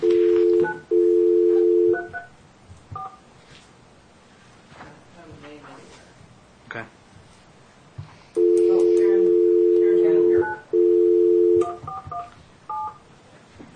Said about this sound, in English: Let me go ahead and make this phone call, gentlemen.